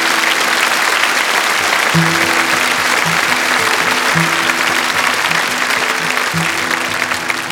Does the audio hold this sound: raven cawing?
no